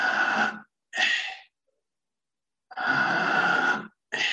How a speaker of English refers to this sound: And so it's breathing in deeply, letting go, breathing in, letting go. And every minute it goes faster. So it begins slowly like this. Deeply in, letting go.